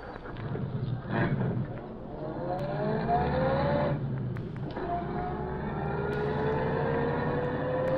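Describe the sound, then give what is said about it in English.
A car pulls away from the curb outside an apartment building and drives off down the street, its engine revving up and climbing in pitch through a couple of gear changes, steady with no one talking. “Car pull out from curb down the street.”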